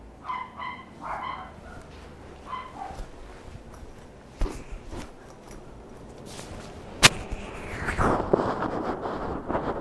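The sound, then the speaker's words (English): Several puppies bark and yip in quick, high-pitched bursts, clustered early on, with a sharp snap and a rising whine later, over steady background noise and no talking. “Those puppy doggies barking, huh?”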